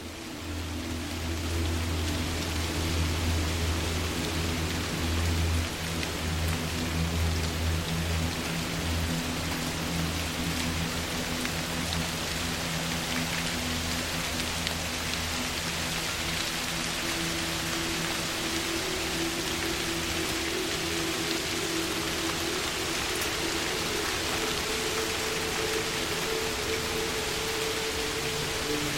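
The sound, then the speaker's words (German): Steady rain patters down onto the leaves overhead in a dense, even hiss of countless drops, with a soft low rumble beneath; no voices, just a continuous, gentle downpour that holds constant throughout. “Tropfen fallen leise auf die Blätter über dir und erzeugen ein beruhigendes Prasseln.”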